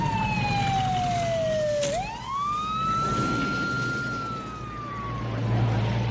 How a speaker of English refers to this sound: The cop cars clear out.